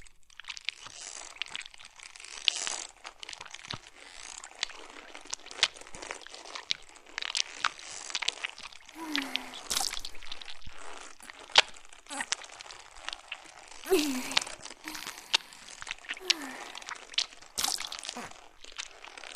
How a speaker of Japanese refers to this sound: お腹裂くわね。あなたの中、死体なのに温かい感じがするわ。熱がまだ残っているのかしら、それとも錯覚？ずるずる削り出していくわね。